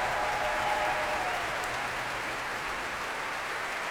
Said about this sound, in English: That last swell of applause was for the leader of the orchestra